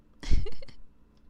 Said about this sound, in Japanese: 中にゲップ入ってます。両耳からゲップ攻めされちゃうよ。みんな聞いてみてね。ゲップ最高。